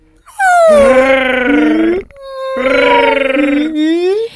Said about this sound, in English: I brought back the tone samples from the baby sperm whales.